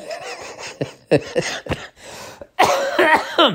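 coughing

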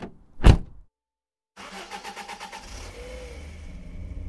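inside a moving car

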